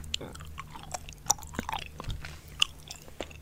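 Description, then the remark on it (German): Wet chewing with irregular smacks and small clicks, a mouth working steadily on chewing gum, with no talking. “Vermutlich wussten unsere Vorfahren schon, dass bloßes Kauen etwa Nervosität oder Langeweile verdrängt und die Zahnhygiene fördert.”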